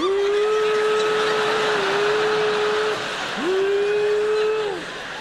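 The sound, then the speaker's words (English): A vacuum cleaner runs with a loud, steady whine over a broad rushing hiss, stops briefly, then winds back up to its droning pitch before fading down. “If the noise of vacuuming, that's the best thing, the switching on and switching off.”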